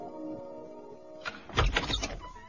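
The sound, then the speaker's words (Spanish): After a low steady hum, the door of a house bursts open with a sudden loud thump and a brief rattling scrape, forceful, then fades quickly. “Cuando estaban a punto de salir de la casa, la puerta se abrió de golpe.”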